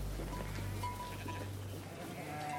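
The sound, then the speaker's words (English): Sheep and goats bleat while grazing over a steady low rumble, their wavering calls rising and fading across a few seconds of farmyard ambience with no one speaking. “I could see the sheep and the goats grazing.”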